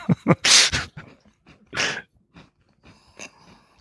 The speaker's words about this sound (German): Ich habe in einen Keks gebissen. Man hört es. Ich dachte, ich muss jetzt ja auch mal reinbeißen.